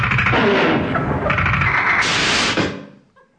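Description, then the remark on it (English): A loud, harsh crash of someone slamming into a closed glass door, a dense burst of clattering noise that holds for over two seconds before cutting off and fading out. “It was a glass door and she'd neglected to open it.”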